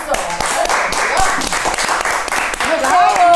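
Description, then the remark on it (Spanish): Steady, loud applause for the hosts' long marriages fills a few seconds, a dense wash of quick overlapping claps, while voices chatter and exclaim over it throughout. “Eso merece un aplauso.”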